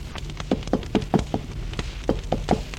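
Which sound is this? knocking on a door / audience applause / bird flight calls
knocking on a door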